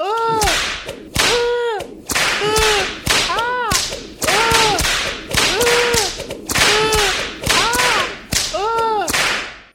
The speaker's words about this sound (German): Fangen Sie mit der Peitsche an.